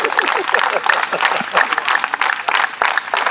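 A group claps their hands together, a dense, loud patter with a steady rhythmic beat running through it, while voices talk and call out underneath.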